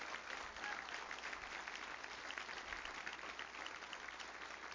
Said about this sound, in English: Wasn't that good? Come on, give him a good clap offering. Wasn't that good?